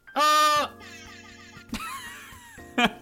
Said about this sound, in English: I'm joined today by Carlos, who you just heard with his lovely air horn